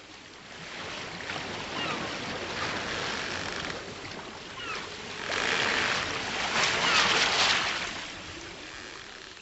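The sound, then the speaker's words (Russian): Rough Pacific Ocean water churns and surges continuously in a storm, with louder crashing swells building in the second half, pounding against a ship's hull. No voices are present. “Уже несколько дней и ночей с трудом боролся корабль на своем пути с дико бурлящим Тихим океаном.”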